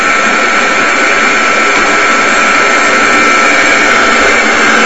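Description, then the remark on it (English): A hemp seed oil press runs continuously at its slowest setting, pressing the last of the hemp seeds at the end of a run, making a loud, steady mechanical roar with a bright whining hiss, unbroken throughout, with no voices. “This is the last of the hemp seeds that we're going to press today.”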